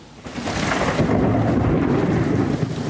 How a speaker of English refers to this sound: in New York, where thunderstorms are soaking the city.